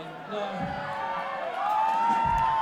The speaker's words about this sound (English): They cheer because they have a bet going. Some of them have wagered that I can tell a story that lasts for 30 minutes and clears the room.